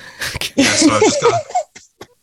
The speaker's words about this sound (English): I'm recovering from a bad cold, and I've just got a little bit of a cough left.